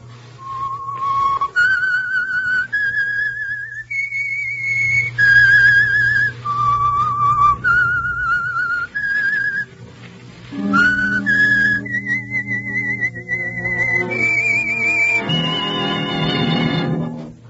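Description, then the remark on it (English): A melancholy theme tune whistled solo, with long sustained notes stepping up and down in pitch, followed by a swelling orchestral chord underneath toward the end, over a low steady hum. “whistle is your signal for the Signal Oil program, The Whistler.”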